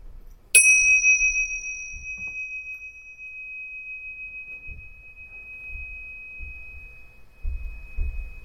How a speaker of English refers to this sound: And when you can't hear it, raise your hand. This time, really track the sound of the bell. There's a lot of other noises happening.